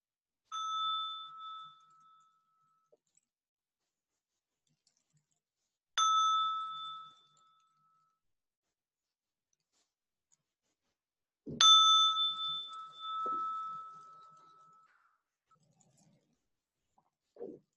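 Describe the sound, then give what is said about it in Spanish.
A meditation bell is struck three times at slow, even intervals. Each clear, ringing tone lingers and fades, and the last strike sounds loudest, with a faint knock beneath it. “Y ahora voy a tocar la campana y los invito a dejar que el sonido y las vibraciones recorran el cuerpo.”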